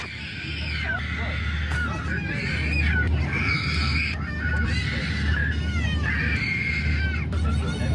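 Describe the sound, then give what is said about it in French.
Babies crying on an airplane during a 29-hour flight from New Zealand to Berlin: several overlapping high, wailing cries rise and fall in pitch almost without pause over a steady low engine drone, loud and persistent throughout. “Et il y avait des bébés dans l'avion.”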